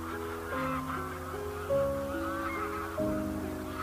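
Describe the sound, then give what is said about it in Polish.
A flock of several hundred cranes calling in flight at night under the moon, more arriving in V-formations, many overlapping honking calls layered into a steady, fairly loud chorus with a few louder calls standing out, no voices present. “No i jeszcze nad tym wszystkim góruje księżyc i całkiem fajne widoki, kiedy te ptaki przecinają księżyc i na jego tle się na chwilę pojawiają. Taki oto obrazek mamy przed sobą. I zlatują kolejne, kluczami.”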